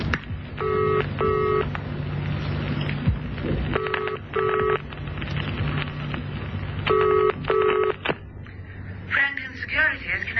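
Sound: telephone being dialed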